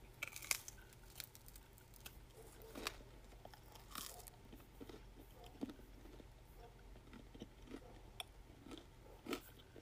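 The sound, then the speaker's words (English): Crisp crunching bites into a hard pizza crust, with a series of sharp, irregular cracks and snaps over a steady low hum, followed by quieter chewing sounds. “And it's crunchy. You're welcome. This is some of the crust.”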